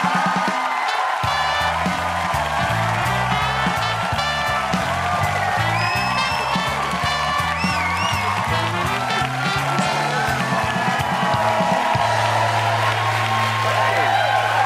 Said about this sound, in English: So the crowd went berserk.